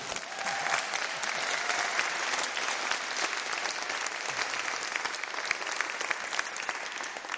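Sustained applause from a large audience, a dense, steady wash of clapping that stays loud and even for several seconds without any voices standing out.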